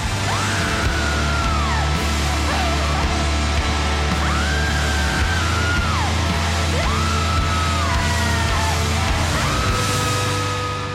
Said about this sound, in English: Yeah. Because you are just out of body, screaming, wailing, you know. I mean, are you smiling when you did that?